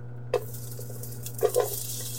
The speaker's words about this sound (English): And I'm going to grab my onions and my ginger. And we're gonna go ahead and add that to our pot. When it hits the pot, we want to hear that lovely sizzle. That's how we know that everything's just starting to come together.